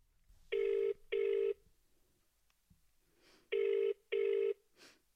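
phone ringing

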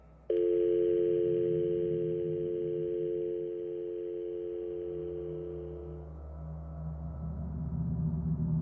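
telephone dial tone

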